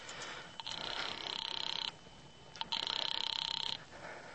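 A call placed from a drugstore phone booth to the caller's sister: the line rings twice, each ring a steady, buzzing electronic tone lasting over a second, with a short pause between them over faint background hiss. No one speaks.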